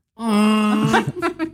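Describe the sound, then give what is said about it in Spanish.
A single voice imitates a Chewbacca growl: a loud, sustained, wailing moan that breaks after about a second into a rough, gargling stutter, with no other talk. “objetos que hacen sonidos como chubaca”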